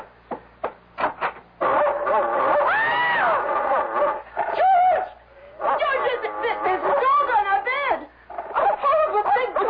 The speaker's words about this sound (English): It's only a dog, for Pete's sake. He's not going to hurt you.